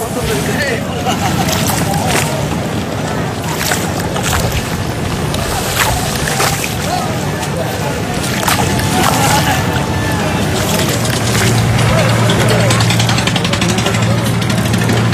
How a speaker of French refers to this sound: On est sur le port de Dakar, là. C'est complètement délirant. D'abord l'odeur. Le mot qui vient, c'est cloaque. Ça pue, c'est épouvantable. Mais c'est magnifique. C'est magnifique. Il y a des énormes ferries.